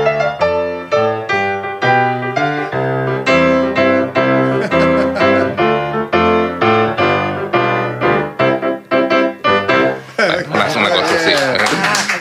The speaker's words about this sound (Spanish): Qué grande. Mira cómo aplauden acá todos los amigos y los familiares que vinieron al estudio de Radio Nacional.